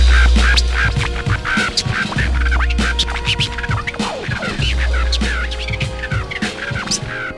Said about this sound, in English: Sometimes a parrot talks.